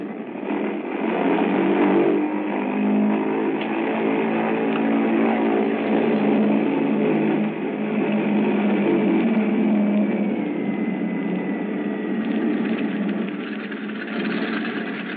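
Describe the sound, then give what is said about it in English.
Heavy engines of the bomber Bumblebee, lead ship of the 236th Wing, roar steadily during an engine run-up at the head of the runway, a loud continuous droning throb with a slight shift in pitch partway through, and no voices. “The mills of the gods began to grind, I would say, while we were completing our engine run up at the head of the runway.”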